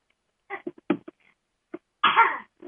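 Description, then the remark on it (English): Babies coughing in a series of short bursts, a few quick hacks followed by a longer, louder rasping cough and a small final one, with no talking. “Oh, we have coughing babies.”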